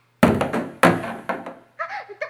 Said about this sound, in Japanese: 大丈夫ですか？すごい音がしましたけど。よかった、シャワーヘッドの音だったんですね。